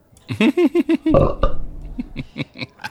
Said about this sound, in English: Was that a belch, my love? It sounded like the laughter of angels.